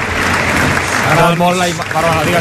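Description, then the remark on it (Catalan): A stadium crowd of FC Barcelona fans gives a loud, sustained ovation as Sergio Busquets bids farewell, a dense wash of applause and cheering that holds steady throughout, with a man's voice speaking over it. “saluda al públic, s'acomiada de l'afició que l'ovaciona, que l'aplaudeix i que l'acomiada, pica de mans també amb el delegat, amb Carles Naval, s'abraça amb Xavi, marxa, deixa enrere aquest tros tan gran d'història del Barça, Sergio Busquets.”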